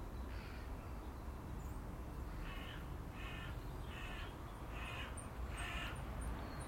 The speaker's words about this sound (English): The crows are on the move. They're moving around.